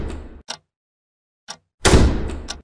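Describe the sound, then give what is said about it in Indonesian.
Loud pounding on a door: a few heavy booming blows at uneven intervals, the last one longest and most forceful, with brief silences in between and no voices. “Sampai terdengar lagi suara gedoran.”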